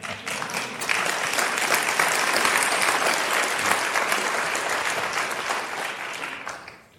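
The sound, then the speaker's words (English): Sustained applause from a crowd, a dense, steady wash of many hands clapping that swells in the first second, holds loudly for several seconds, then fades away near the end. “So hear the applause again.”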